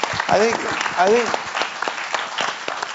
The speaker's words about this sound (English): We should give her a round of applause for that principled position.